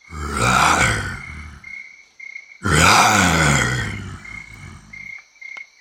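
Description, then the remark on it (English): A lion roars twice, loud: two long, rumbling, growling bursts separated by a short pause, each fading out at the end, with no talking. “I can see a lion, says Robin.”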